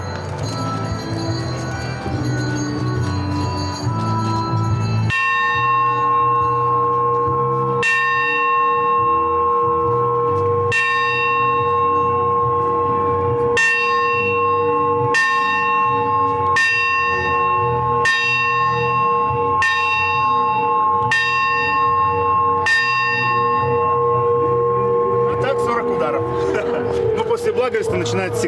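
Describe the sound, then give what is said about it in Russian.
A church bell rings the blagovest, the long ringing that announces the start of a church service: about ten slow, evenly spaced single strokes, each loud, with a long humming decay that carries over into the next strike. “в начале службы всегда звонится длинный благовест, 40 ударов, который символизирует о том, что начинается служба”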